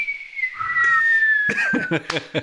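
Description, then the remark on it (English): A thin, breathy attempt at whistling, by a person whose lips are dried out from cigars, holds one slowly sagging note, airy and strained, while choppy bursts of voices or laughter break in over its second half. “Well, see, the cigars dry out my lips, so I can't whistle.”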